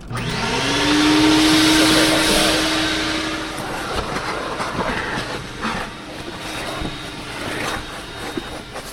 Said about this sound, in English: Even though I worked hard to drag the vacuum nozzle over the carpet still isn't entirely clean